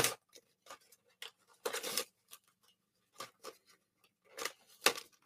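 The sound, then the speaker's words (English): Paper card packaging is torn off an 8-inch Albano MagDraft swimbait in several sharp, irregular rips and crinkles, with short quiet gaps between the bursts and no voices. “And then so like the 8-inch Albano MagDraft, take the giant plastic or the paper cards off, keep it a little smaller.”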